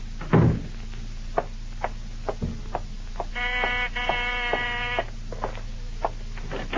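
A low thump, then a drawn-out, pulsing creak lasting under two seconds as a door swings open on stiff hinges to let a visitor in, over a steady background hum with a few soft clicks.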